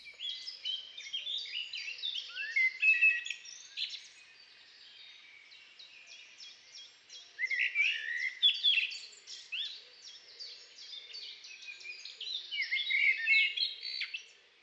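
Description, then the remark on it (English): A blackbird sings alone in bursts of rich, varied warbling and twittering phrases, clear, with brief quieter gaps between the main outpourings of song. “And blackbird has an entire repertoire which changes all the time.”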